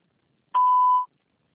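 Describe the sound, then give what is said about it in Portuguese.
A single steady electronic beep, a clean mid-pitched tone lasting about half a second, starting abruptly and cutting off cleanly, with silence before and after: a voicemail signal to leave a message after a Portuguese-language prompt. “Por favor, deixe sua mensagem após o sinal.”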